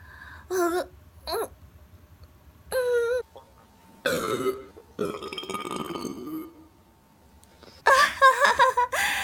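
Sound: repeated burping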